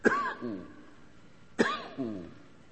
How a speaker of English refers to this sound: He's coughing every once in a while.